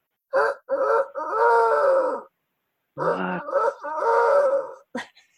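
A rooster crows twice during a magic show, from behind a case where nothing is visible, each call a couple of short clipped notes swelling into a long, loud, strained harmonic cry, with a brief pause between them and a short squawk at the end.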